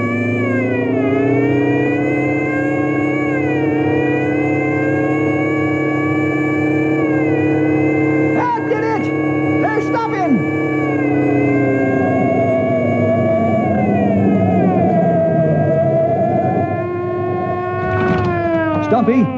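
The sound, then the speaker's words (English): A car engine with a supercharger whine roars steadily for about twenty seconds as the driver kicks in the supercharger and emergency speed gear to chase a speeding hot rod. Its high whining pitch climbs and shifts as it accelerates, loud throughout. “I'm going to kick in the supercharger and the emergency speed gear.”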